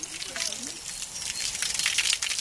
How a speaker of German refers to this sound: Wer kein Armbad macht, bekommt von Christiane Groß einen Knieguss mit dem Wasserschlauch.